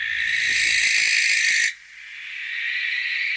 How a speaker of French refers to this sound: Vous l'entendez la nuit, ça, régulièrement. Oui. Ça vous effraie peut-être d'ailleurs, d'où je pense son nom, l'effraie des clochers pour nous accueillir dans Parlons d'oiseaux.